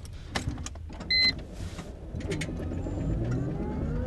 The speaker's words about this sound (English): Iceland's first hydrogen car doesn't look like it's the most expensive Mercedes in the country. Shall I start it up, see what happens?